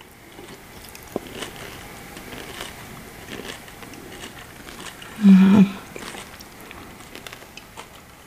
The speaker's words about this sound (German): Aber wisst ihr was, jetzt wird da nicht mehr lang geredet, Leute. Genau. Ich darf sagen, wir schmatzen euch jetzt mal ins Ohr. Wir probieren es.